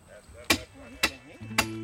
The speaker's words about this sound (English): The men hammer the sign at the top of the driveway, well within sight of Seal's RV, and obvious to any passerby.